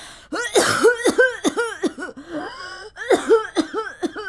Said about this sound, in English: An old man staggered through, coughing, and I mean coughing, into a grimy old handkerchief.